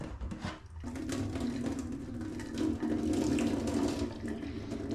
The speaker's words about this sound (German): Dann mit kaltem Wasser abschrecken, damit sie nicht weiter garen.